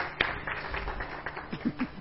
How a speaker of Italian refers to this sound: E anche la band, ovviamente. Ci mancherebbe. Un applauso, va bene, dai.